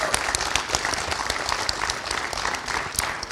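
A crowd applauds steadily, a dense patter of many hands clapping at a fairly loud, even level for a few seconds with no voices over it.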